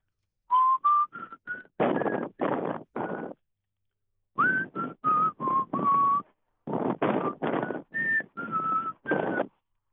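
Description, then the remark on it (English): A man whistles an old song tune in three short phrases of clipped, broken notes, the sound thin and slightly distorted by a telephone line, with no talking. “please take it away with your dulcet tones for your workman's whistle”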